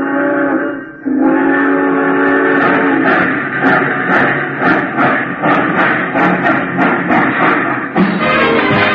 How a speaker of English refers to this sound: Attention, please. All passengers taking the Chief to Chicago, please walk on tiptoes as you board the train.